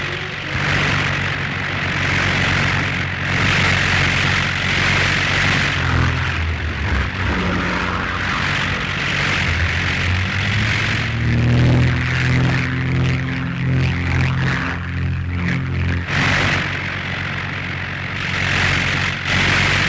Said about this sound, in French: Rapidement, les appareils sont sortis sur le terrain. On fait le plein d'essence. Pilotes, mitrailleurs, observateurs vont s'installer à leur poste. Et par groupe de trois, les avions vont s'envoler.